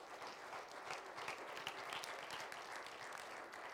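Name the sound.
audience clapping hands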